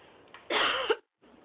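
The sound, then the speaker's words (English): A single harsh cough bursts out, loud and rough for about half a second, then cuts off into near silence with faint room noise around it. “I hope I muted my cough.”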